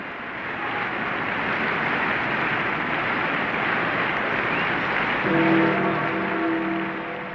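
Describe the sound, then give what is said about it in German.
A large crowd in St. Peter's Square applauds the Pope at his coffin without pause, the clapping a dense, steady roar that swells slightly near the end, where a few sustained, sung or chanted tones rise over it. “Der Applaus brandete immer wieder auf.”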